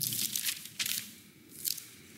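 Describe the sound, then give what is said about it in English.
Soft papery rustling and crinkling of an audience turning Bible pages and scrolling phones to Isaiah 53, with three brighter swishes rising out of a low, steady hush. No one speaks. “I can hear all the phones scrolling to Isaiah 53.”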